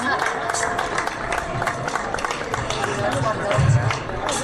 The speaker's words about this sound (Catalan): Doncs això no hauria estat possible sense l'ajut de la comissió i per ells demano un fort aplaudiment, sisplau. Per tots.